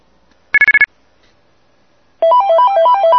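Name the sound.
mobile phone ringtone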